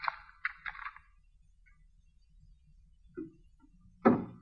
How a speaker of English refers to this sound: that ain't the wind. There's somebody working the door that way.